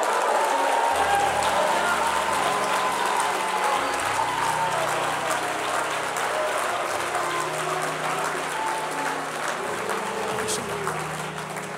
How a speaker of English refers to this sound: Now give a cheer to the Lord.